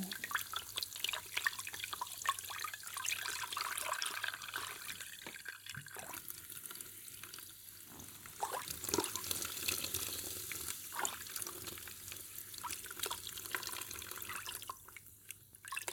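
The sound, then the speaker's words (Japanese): Carbonated drinking water pours and splashes steadily over hair, a continuous wet rushing with small drips and trickles, like liquid running into a sink, with no one speaking. “飲む用の炭酸水だと弱いのかな。”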